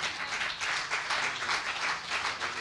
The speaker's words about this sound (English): Let us give the Lord a hand of applause.